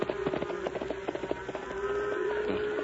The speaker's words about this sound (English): Come on, horse. Up the hill. Come on, boy. Steady now. Steady.